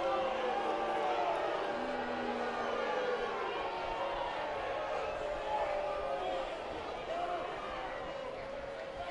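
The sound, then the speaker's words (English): A large hometown crowd at a baseball game boos steadily, a dense, sustained wash of low drawn-out voices holding at a constant loudness throughout, with no single voice standing out. “A steady stream of boos coming down from the hometown crowd.”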